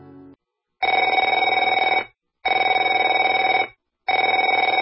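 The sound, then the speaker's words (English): A telephone rings in three long, loud bursts separated by short pauses, with a bright trilling electronic tone and no voices over it. “Afraid to answer it?”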